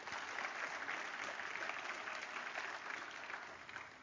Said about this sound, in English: Give him a good clap offering. Would you come on?